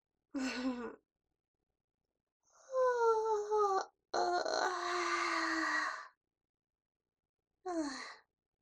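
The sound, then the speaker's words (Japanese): A voiced yawn, set off by seeing someone's sleepy face: a short breathy lead-in, then a long drawn-out stretch with a falling, moaning pitch that trails off, and a brief sighing tail at the end. No speech. “お主が眠そうな顔じゃから、ついあくびが出てしまった。”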